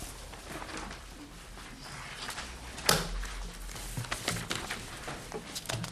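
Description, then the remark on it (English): Ring binders click open in a scattered series of sharp snaps, one louder than the rest, over a steady bed of rustling and shuffling paper as House members at a legislative committee hearing take papers out of their ring-binder notebooks. “Yes, we're all taking the papers out of our ring binders here.”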